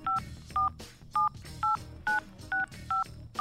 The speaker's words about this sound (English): Near the beginning of the tune, at the 10-second mark, you can hear a telephone being dialed.